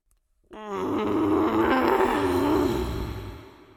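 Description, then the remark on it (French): A loud, deep growl from under the bed covers starts abruptly after a brief silence and rumbles on steadily for about three seconds, rough and throaty with a wavering pitch, before fading slightly at the end. “Pourquoi il grogne si fort?”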